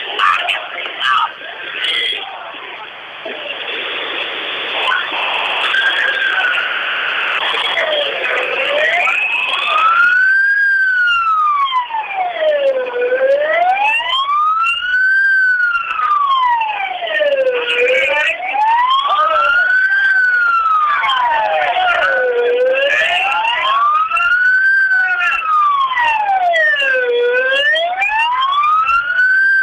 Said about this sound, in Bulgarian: Още една линейка се приближава с включени светлини.